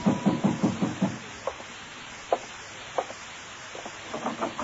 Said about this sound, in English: In my room, I was about to call Payne and ask him why when somebody began pounding on my door.